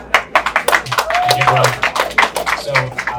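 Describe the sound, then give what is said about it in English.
A small crowd claps for a few seconds to welcome a speaker, with dense overlapping hand claps at moderate loudness and scattered voices and a brief whoop mixed into the applause. “Please give him a welcome applause.”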